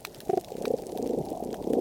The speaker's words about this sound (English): They can cause pops or pulses, bub-bub-bub-bub-bub sort of sounds. Whooping sounds, whoop-whoop-whoop-whoop. And then grunting, deeper, rasping sounds.